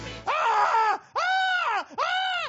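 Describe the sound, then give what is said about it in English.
Three loud, drawn-out screams in quick succession, each a strained cry that rises and then falls away, with no other sounds or talk around them. “It's so you don't hear the screaming.”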